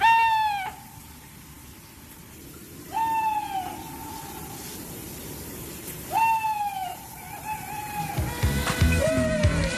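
An owl calls four times, each a strong, wavering hoot repeated every few seconds, clear over a faint rustling background with no one speaking.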